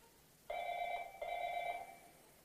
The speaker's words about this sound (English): Somebody get that phone.